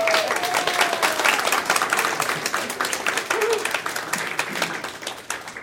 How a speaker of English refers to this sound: And I think that deserves some applause.